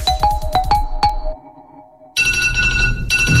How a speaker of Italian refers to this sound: Come diavolo si ferma questa sveglia?